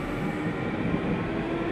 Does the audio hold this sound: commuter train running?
yes